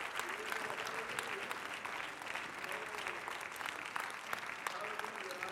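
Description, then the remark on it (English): An audience claps steadily, applauding the Lord as people come forward, dense overlapping applause filling the whole stretch at an even, fairly loud level, with faint voices and cheers woven underneath. “Come on, applaud the Lord as they're coming.”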